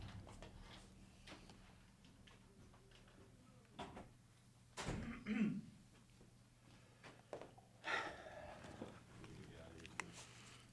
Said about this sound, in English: I gotta shut the door. I'm hearing people.